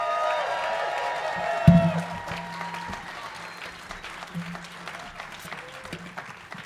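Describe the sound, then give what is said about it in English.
Audience applause as Bill Lepp and Kimmy Whitecamp are welcomed on stage, a dense patter of many hands clapping at steady loudness, with a brief louder thump near the start and faint crowd murmur underneath. “Will you please welcome Bill Lepp and Kimmy Whitecamp? Clap is great.”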